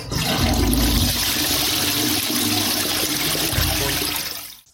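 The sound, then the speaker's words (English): A toilet flushes loudly, a steady rushing surge of water lasting several seconds before cutting off abruptly. No one speaks. “figured you'd want me to flush her.”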